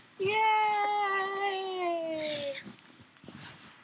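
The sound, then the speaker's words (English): A kitten lets out one long, drawn-out meow, its pitch sliding slowly downward before it fades into quiet background noise with a few soft rustles. “With that good kitten.”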